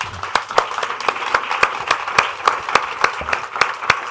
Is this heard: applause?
yes